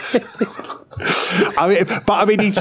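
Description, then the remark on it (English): A single harsh cough bursts out loudly, with someone talking briefly before it and resuming right after. “Sorry, nasty cough.”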